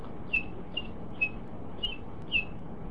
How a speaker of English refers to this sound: A baby bird cheeps or chirps.